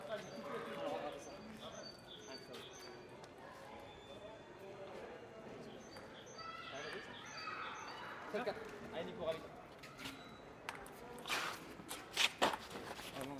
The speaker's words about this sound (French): Cet îlot fait aujourd'hui place aux escarpins qui claquent, aux pongistes qui s'éreintent, aux mésanges charbonnières qui travaillent leur gamme et aux pigeons ramiers qui froissent l'air.